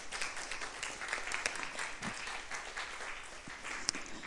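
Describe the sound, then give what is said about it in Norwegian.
An audience applauds a speaker on the way up to give a talk, a dense wash of many hands clapping at moderate volume for several seconds without pause, with no voices standing out. “Jeg gir deg en applaus på tur opp.”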